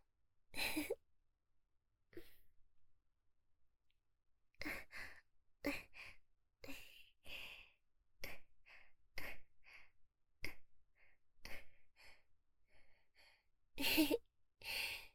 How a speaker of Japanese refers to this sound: 男の人も感じちゃうんですね。息遣いも変わってきました。